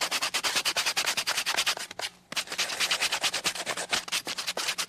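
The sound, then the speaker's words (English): Rapid, steady back-and-forth scratching of sandpaper rubbed by hand over a piece of wood to take the rough edges off, with a brief pause midway before the brisk strokes resume; no one speaks. “Get a piece of sandpaper. Get the rough edges off.”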